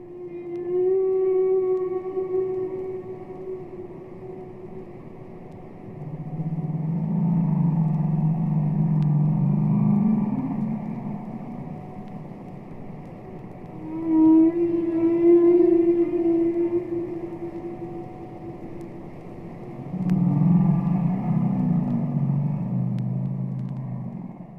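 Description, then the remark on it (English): Humpback-style whale song: long tonal moans with rich harmonics alternate with deep, rumbling groans, repeating in phrases every several seconds. Steady and fairly loud, with no voices. “We listened for many years, and I made spectrograms in those years, and saw how the parts of the song were changing all the time.”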